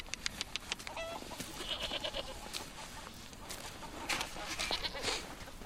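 Goats bleat and chickens cluck together in a busy farmyard, several animals calling in overlapping bursts over a steady outdoor background.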